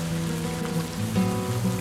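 Steady rain patters continuously on a surface, a dense hiss of drops with no pauses, while a low sustained musical drone hums underneath.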